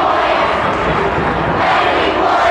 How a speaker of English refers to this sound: Riverdale crowd getting into it here. Great student section. This crowd overpowers Science Hill.